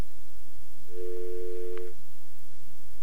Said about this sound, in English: But alas, no. It is a dial tone.